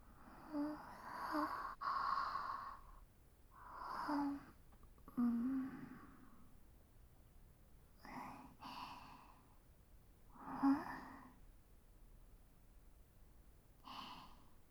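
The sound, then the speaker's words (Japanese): Several drawn-out, breathy yawns, some with a low voiced groan, come one after another with short pauses between them, moderately loud, with no talking; the yawns are the commander's. “指揮官もあくびです。”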